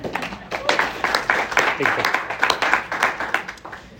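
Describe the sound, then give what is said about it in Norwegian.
An audience at a seminar on multicultural volunteering applauds, many hands clapping in a dense, steady patter that holds at an even, moderate loudness for about four seconds without fading. “En klapp”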